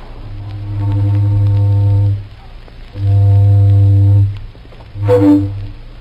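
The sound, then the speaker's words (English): A deep, hoarse old steamboat whistle plays a familiar tune in three loud blasts: two long sustained notes with a pause between, then a shorter, brighter final blast, with no one talking. “Now, getting back to that night in November 1925, if you were tuned in, you heard a mighty familiar tune on an old steamboat whistle and a mighty friendly voice talking to you, sort of like this.”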